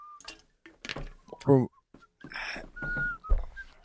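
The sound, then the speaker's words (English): Short, thin notes whistled by a person come and go at a steady pitch, fairly quiet, broken up by bursts of people talking. “There's right. No reason anybody should be whistling.”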